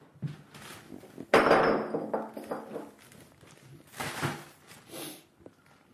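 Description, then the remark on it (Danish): Collected bottles, many of them Cola Zero, Danish water and red wine bottles, clink and knock against each other in a few bright, clattering bursts, with a louder jangle early on and another cluster of clinks near the end. “Der er utrolig mange Cola Zero-flasker, og utrolig meget dansk vand, og så er rødvinsflaskerne også klart overrepræsenteret her.”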